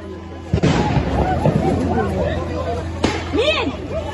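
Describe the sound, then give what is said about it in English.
Two heavy explosions from Israeli airstrikes on Gaza boom a few seconds apart, loud and rolling, while a crowd of people shouts and clamors continuously in the background. “In three separate strikes, Israel again showed what it can do at will to Gaza's skyline.”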